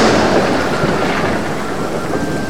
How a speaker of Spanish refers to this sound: Cuentan los mayores que cuando llueve y la tierra se estremece con truenos y se ilumina con rayos